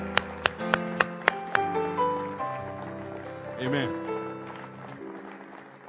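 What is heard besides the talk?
audience hand clapping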